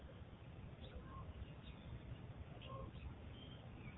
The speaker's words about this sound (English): Well, it's just starting to get dark. I don't know if you can hear it, but a lot of birds tweeting.